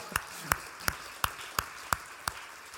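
Seven sharp, evenly spaced hand claps at a slow, steady beat, applauding a kitchen worker of the house, each a crisp smack with a slight ringing tone, over a faint low background murmur and no speech.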